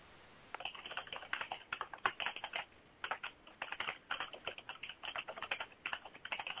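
Fast, furious typing on a typewriter, a dense run of crisp keystrokes clattering in bursts without pause for several seconds, close and fairly loud, with no voices.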